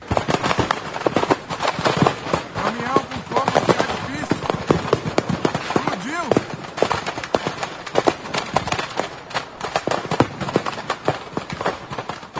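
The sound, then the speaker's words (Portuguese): Fireworks carried as cargo in a burning vehicle on the BR-272 highway in Goioerê, Brazil, burst from the fire in a rapid, continuous crackle of sharp pops and bangs, with passing drivers' voices heard faintly underneath the steady barrage. “O veículo transportava fogos de artifício, que por causa do fogo, estouraram.”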